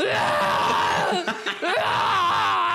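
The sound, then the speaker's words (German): A voice loudly imitates violent retching, a strained, groaning scream that sustains, breaks into a couple of choking gasps, then roars on again, harsh. It imitates how someone screams at the toilet while vomiting. “wenn Tim kotzt, da hat sogar der Nachbar Angst”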